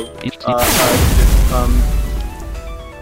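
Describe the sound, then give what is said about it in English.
A single heavy boom erupts, a loud video game cannon blast with a deep rumbling tail that lingers for a couple of seconds, mixed with faint background voices. “Select weapon. Mid laser. I can't handle laser, losing, so cannon.”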